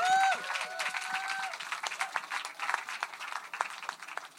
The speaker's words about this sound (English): give him a huge round of applause, please.